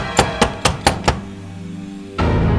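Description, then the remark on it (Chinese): Five firm knocks on a door in quick, even succession, followed by a lingering low resonance and then a steady swell of sound. No one speaks. “正当他怀疑着是不是自己太累的关系而产生的错觉，敲门声又响起了。”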